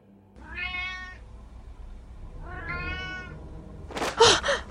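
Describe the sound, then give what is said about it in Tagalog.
A black cat, not the pet Kitty, meows twice in the evening as a car is about to be opened, each call drawn out and tonal with a pause between, over a low background rumble, followed by a sudden harsh burst of noise at the end. “May narinig akong ngiyaw.”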